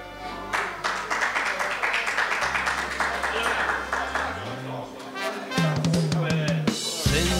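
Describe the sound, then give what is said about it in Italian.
An audience applauds in a steady, dense patter of many hands clapping. Low sustained tones hum underneath, and the clapping thins out toward the end as other sounds take over. “Risate no, ma applausi sì, dai.”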